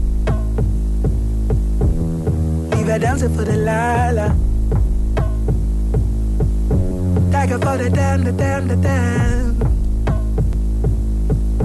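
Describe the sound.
A Scottish hip-hop song plays, built on a loud, throbbing low-end beat and sustained bass, with sung vocals that swell into brighter, layered passages twice.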